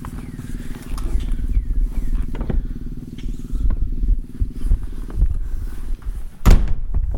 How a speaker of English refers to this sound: Oh, maybe it's on this side. Ah, yes. Voila! Here is a latch.